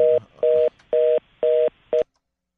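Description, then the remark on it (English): A telephone line tone comes through as five loud, evenly spaced beeps with short gaps between them. The last beep is cut short, and no one speaks. “Listen to these phones.”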